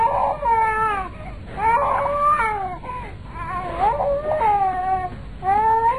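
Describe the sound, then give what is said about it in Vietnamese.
A little boy lying on a bed cries in repeated wailing bursts, high and tremulous, with short breaths between each cry and steady loudness throughout, with no other voices. “Thằng nhỏ nằm trên giọng cứ khóc hoài.”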